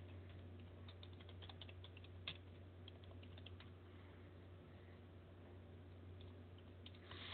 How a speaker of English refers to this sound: Oh, I'm just typing a message. I'm sorry, I'm just writing a nasty letter here.